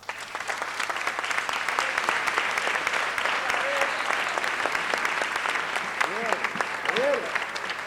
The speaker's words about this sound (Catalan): Puja el perpetuador de les festes, que rep un altre cop el reconeixement en forma d'aplaudiments d'aquesta sala d'actes plena de gom a gom.